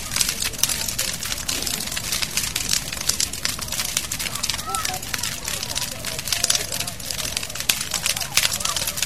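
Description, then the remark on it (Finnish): A bonfire by the shore crackles steadily at about 10 pm, heard from some distance up the hillside, a dense, continuous stream of sharp pops and snaps with no pauses, and faint voices murmur now and then in the background. “Mutta rätinä kuuluu tänne ylärinteeseen saakka tuolta kokosta.”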